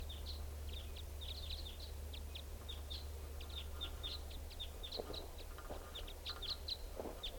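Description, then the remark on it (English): Type 5 bird flight calls: a steady stream of short, high chips that come singly and in quick clusters, over a constant low rumble of background noise. “Well, the recording sounds like the type 5s are coming back, or else it's flying over.”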